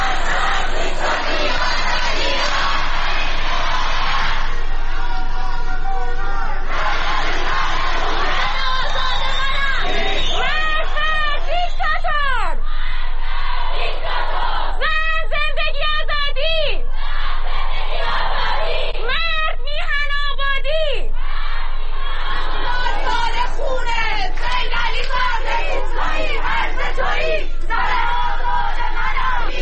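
A protest crowd in Sanandaj, Iran, shouts and chants continuously for about thirty seconds, with loud overlapping voices, rising cries and rhythmic bursts of yelling that swell repeatedly.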